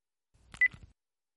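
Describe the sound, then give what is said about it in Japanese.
A mobile phone buzzes briefly with an incoming call at night, a short burst of low rattling pulses topped by a thin electronic tone, fairly quiet, with no one talking. “3日前の夜、携帯が震えた。”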